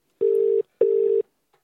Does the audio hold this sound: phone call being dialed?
yes